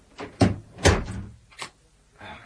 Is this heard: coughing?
no